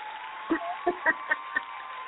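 About five scattered hand claps from an in-studio audience ring out, sparse and slightly irregular, over a low steady background hum; no voices or cheering come through.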